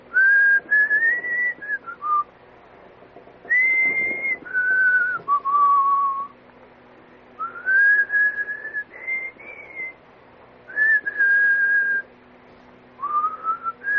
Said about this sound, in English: That's what I was whistling. I was whistling that yesterday at about 3:30 in the garage.